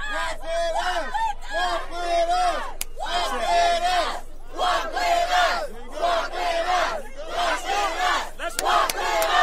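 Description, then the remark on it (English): A large protest crowd shouts in loud, rhythmic unison, chanting in repeated bursts with short pauses between, energetic throughout. “what do you think of that approach to a protest crowd?”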